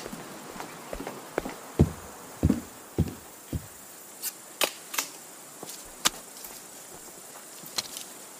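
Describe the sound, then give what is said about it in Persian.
A knife is sharpened in a garden with a series of quick, uneven scraping strokes, each a brief bright metallic rasp with a hissy high edge, repeating at an irregular pace. No one speaks. “شاهین چاقو رو تیز میکنه.”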